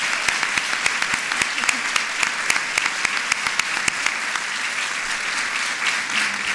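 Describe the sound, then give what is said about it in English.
Steady audience applause for two women, one born in 1907 who served with the 688th Central Post Directory Battalion in the Second World War, with dense, crisp clapping spread across a broad hiss, holding at an even, fairly loud level for several seconds without anyone speaking. “So let's give them both another round of applause.”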